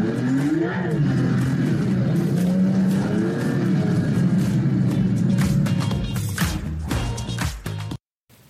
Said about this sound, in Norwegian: Du hører sportseksosen, gasspedalen og giret blir hissigere.